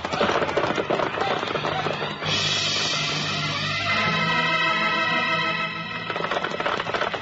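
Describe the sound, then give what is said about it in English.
Horses of a sheriff's riding party, including Trigger, gallop off in a rapid, pounding rush of hoofbeats that fades under a sustained, droning tonal passage midway, then the hurried thudding returns toward the end. “Stay on your horse, Sheriff. We're riding.”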